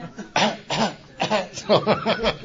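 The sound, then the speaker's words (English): A woman in an audience at an Alcoholics Anonymous meeting coughs repeatedly in a series of short, hoarse bursts that come in quick clusters, moderately loud, with no talking alongside. “Mine's got a button that you push, and she coughs, you know.”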